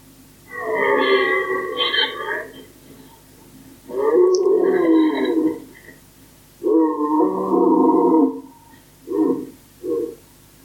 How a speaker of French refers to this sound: Il y avait plusieurs cerfs autour qui se répondaient les uns les autres.